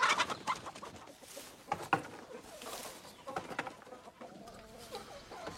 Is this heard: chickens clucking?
yes